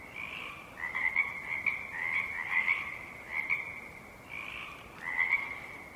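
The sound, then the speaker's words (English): A frog chorus croaking at dawn as darkness recedes, growing quiet and intermittent, in soft, overlapping bursts, each call a buzzy mid-pitched trill that swells and fades, with brief pauses between rounds. No voices, only steady low background hiss. “And as the darkness recedes, the frog chorus becomes quiet and intermittent.”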